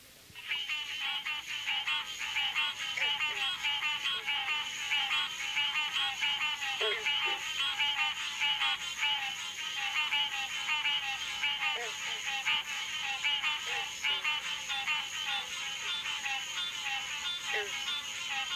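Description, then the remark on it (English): A dense, steady chorus of frog calls fills a Florida summer evening, with a few twangy, banjo-like bronze frog notes plucking now and then in the background. No one speaks. “It is especially common around lakes and large marshes, and its call is one of the most familiar sounds of a Florida summer evening. It is heard here with the twangs of bronze frogs in the background.”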